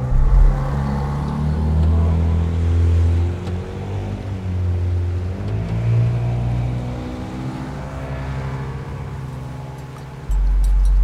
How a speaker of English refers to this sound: He starts the engine and begins to pilot them towards the open sea.